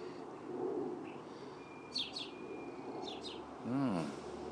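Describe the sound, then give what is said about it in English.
An odd, unfamiliar song from a starling in a big tree: paired high chirps repeated twice, then a lower wavering warble, all fairly faint over a steady background hum, with no talking. “That's a strange song.”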